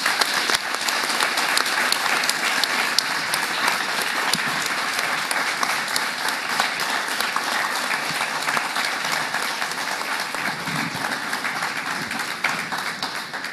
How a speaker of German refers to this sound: Und das ist dein Applaus. Vielen Dank.